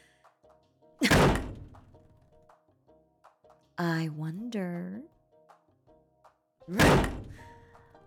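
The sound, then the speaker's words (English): Bathroom stall doors in a men's room bang open twice as someone checks the stalls, each a loud thunk with a short ringing decay, separated by several seconds; a person speaks briefly between the two impacts. “You always did prefer the bathroom stall farthest from the door. But I should check them all.”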